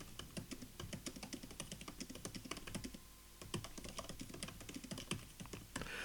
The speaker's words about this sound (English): And the keyboard to type on, have a listen to this.